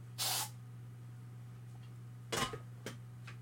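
An aerosol fly spray hisses in a long burst as someone sprays at flies, then after a pause gives another burst and two short quick puffs, over a faint steady low hum.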